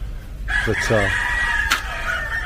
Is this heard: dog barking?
no